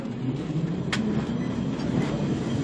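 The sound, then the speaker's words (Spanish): A tram rumbles steadily along its rails with a low, continuous hum, punctuated by a couple of brief metallic clicks or squeals as the wheels pass over the track. “Pero la cosa cambió un poco con la llegada del también histórico tranvía, que impactó igualmente en la nueva clientela del recinto.”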